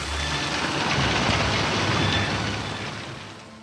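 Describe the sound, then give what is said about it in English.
Steady, dense hiss of rain beginning small and hard as a cyclone's wind increases, with a low rumble beneath like wind or traffic, holding loud throughout and easing slightly toward the end. “Then the wind increases. The rain begins, small and hard.”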